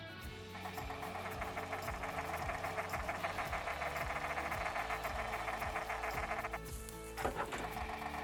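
A Chatterduck duck decoy making mechanically generated sounds of ducks chattering on the water: a rapid, steady rattling buzz over a low motor hum that runs for several seconds, then cuts off, followed by a short sharp clack.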